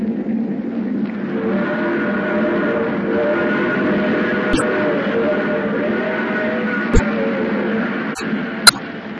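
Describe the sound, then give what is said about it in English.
A train roars through the night in a steady, unbroken low rumble with a droning engine hum, broken late on by a few sharp metallic clicks and knocks. “The train roars through the night.”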